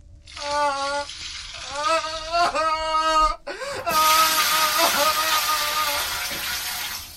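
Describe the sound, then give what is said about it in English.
Icy-cold water is poured out of a bucket onto a person in a loud, rushing splash that starts partway through and keeps gushing for several seconds, while a voice cries out in strained, wavering tones before and during the pour. “They pour the bucket's contents on me.”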